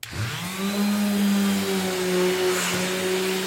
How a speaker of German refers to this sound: Noch ein bisschen unbeholfen schleift der 13-Jährige die alte Farbe vom Holz.